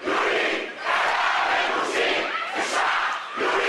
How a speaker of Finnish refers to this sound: huutamalla mielenosoituksesta tunnetuksi tulleita vallankumouksellisten iskulauseita vaatimalla sotilasneuvoston eroa.